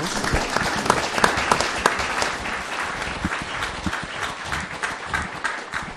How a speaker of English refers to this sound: Some applause.